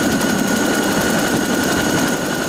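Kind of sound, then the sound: vehicle, military helicopters flying overhead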